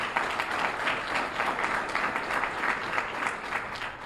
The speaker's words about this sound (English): I also want to thank the President's leadership team and their work with this negotiation. Let's give them a round of applause as well.